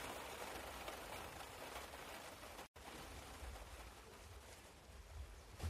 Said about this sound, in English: And then we drive home in the rain, under a black, black cloud, the remnants of Hurricane Gordon which is disrupting the Ryder Cup.